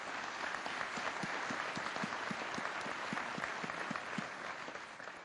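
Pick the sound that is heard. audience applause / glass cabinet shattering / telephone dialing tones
audience applause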